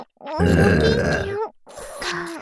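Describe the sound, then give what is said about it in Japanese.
Two drawn-out burps: a long, loud, croaky one followed by a shorter, softer one after a brief pause, with no talking. “まだまだ出るよ。愛してるから、ゲップをたくさんしろのゲップで。”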